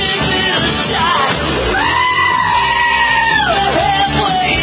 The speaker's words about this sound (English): Truthfully, I thought the wrong song was chosen for the goat remix there.